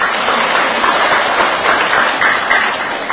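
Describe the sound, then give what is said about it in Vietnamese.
Steady applause from the audience at a Buddhist retreat fills the whole stretch, a dense wash of many hands clapping at once, fairly loud and even, with no voices rising above it. “Có quà cái vỗ tay à.”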